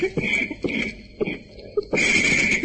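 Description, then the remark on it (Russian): Recording of harsh asthmatic wheezing breaths, repeating in a quick rhythm, each carrying a high whistling rasp, ending in a longer drawn-out wheeze over a crackly, noisy recording. “Когда вот через треск послушаешь первый раз вот эту запись, эти хрипы, знаете, такие астматические, противные, может просто стошнить.”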